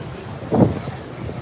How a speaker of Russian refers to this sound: Но ветер сильный. Я думаю, что вы слышите ветер. Я уйду, уйду в помещение, чтобы было, чтобы ветер нам на микрофон не фигачил.